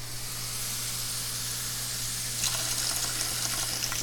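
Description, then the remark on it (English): A steady hiss of tap water runs into a cat's drinking cup, continuous, with the pitch brightening and a splashy patter joining partway through as the cup fills with fresh water for the cat. No one speaks. “Fill up the cup. Fill up the kitty cup with the kitty water.”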